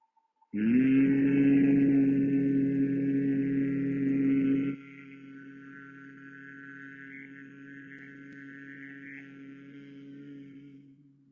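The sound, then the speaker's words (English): A single voice hums one steady, low pitch on the exhale for about ten seconds, strong at first, then abruptly softer but still even until it trails off at the end, during a breathing exercise with the fingers closing the ears and eyelids. “Exhale and hum.”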